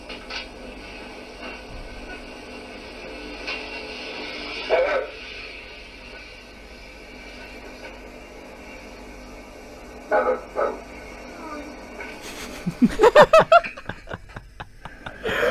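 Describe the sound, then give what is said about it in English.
A dog, asked to say its owner's complete name, lets out scattered vocalizations: a single bark, a pause, then a quick pair of yelps and a final run of warbling, pitch-bending barks, as though trying to talk, over faint room hiss. “That sounds so much like a person going, how the fuck am I going to pull this off as though I'm also barking?”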